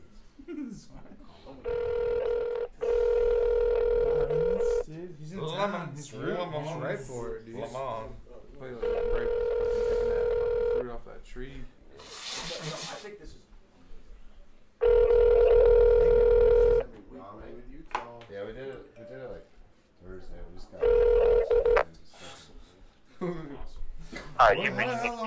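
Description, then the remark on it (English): A phone line rings out unanswered, with steady buzzing ring tones repeating in long bursts separated by pauses, while people chatter and laugh quietly between the rings. “He didn't answer. That's definitely your fault. Yeah. I'll try it again.”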